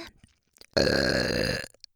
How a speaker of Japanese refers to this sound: 射精のタイミングでドピュドピュ言われて、ゲップもしてもらえて幸せですね。